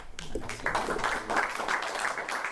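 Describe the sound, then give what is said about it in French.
An audience of the Amis du Monde diplomatique applauds Odette Hardy-Emery as she presents her latest book, « Fusillé vivant », in a steady, dense wash of clapping that starts almost at once and continues evenly throughout, with no voices on top. “Odette Hardy-Emery applaudit par les amis du monde diplomatique devant lesquels elle présentait son dernier ouvrage « Fusillé vivant »”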